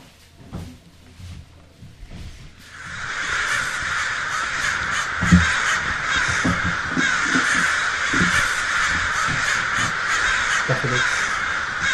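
After a quiet couple of seconds, a dense flock of crows bursts into loud, continuous cawing, harsh overlapping calls filling the scene, with a few low knocks and thumps underneath.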